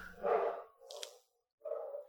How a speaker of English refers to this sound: You hear my dogs? I do. They're having a great time. They are. We'll just leave that in. They're barking at somebody, which they do all the time.